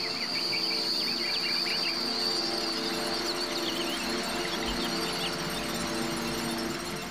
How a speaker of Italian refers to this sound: Il primo movimento si apre con suoni presi dalla natura, lo scorrere dell'acqua, il cinguettio degli uccelli.